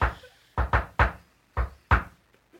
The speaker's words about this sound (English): So they're like a secret knock.